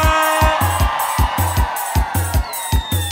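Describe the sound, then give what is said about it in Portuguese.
A crowd at a live forró show in Vitória, Espírito Santo, Brazil, shouts and cheers in a dense, steady roar, carried over a thumping, regular bass beat and bright sustained music throughout. “Cadê o grito da galera? Para a sanfona!”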